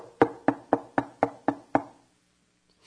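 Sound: knocking on a door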